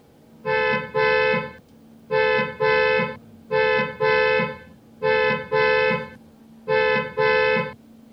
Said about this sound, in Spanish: ¿Cuántas bocinas escuchaste? Pará, me da 5 de vuelta. 5 de vuelta, no son 5. Ay, eso me hace mal ese ruido.